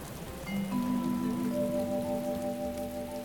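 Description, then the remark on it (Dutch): Steady rain, heavy enough to flood a river, patters continuously with a dense, hissing texture, holding an even loudness throughout, while a few soft sustained tones hum faintly underneath. “Door alle regen is de rivier overstroomd.”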